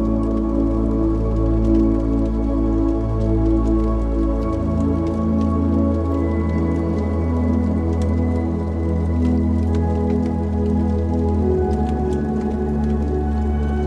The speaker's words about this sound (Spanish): Escuchando el crepitar de la leña.